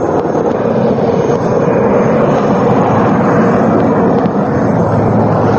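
helicopter flying overhead

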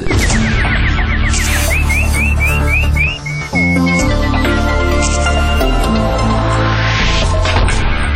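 nightingale warbling

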